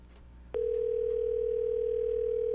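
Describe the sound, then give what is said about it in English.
A loud, steady electronic ringing tone of an outgoing telephone call starts abruptly and holds unbroken at one pitch for about two seconds over faint background noise, with no voices. “Oh, we've gotten the four rings.”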